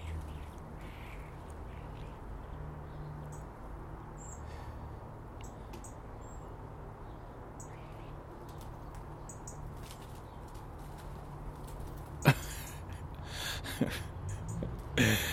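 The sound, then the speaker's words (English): A blackbird that swooped down to grab a bit of bread from the ground takes off and flies right past the recordist's hand and microphone: after a long stretch of low, steady outdoor rumble, a sudden sharp rush of wingbeats breaks in near the end, followed by a few quick fluttering bursts. “And he took off, and I don't know if he picked it up, but he flew right by my hand in the mic.”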